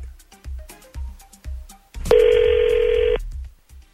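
A telephone call being placed for the Second Date Update segment of a morning radio show on 102.9 The Wolf: a quick, evenly spaced series of short dialing tones, then a single loud, steady ring tone that lasts about a second before stopping. No one speaks.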